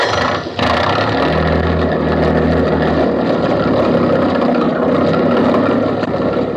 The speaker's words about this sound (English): I'll get the motor started. We'll be off in a jiffy.